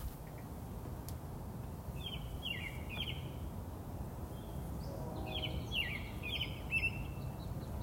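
Two short bursts of quick, high bird chirps ring out over a steady low outdoor rumble, with a quiet gap between them, the second flurry busier and slightly louder.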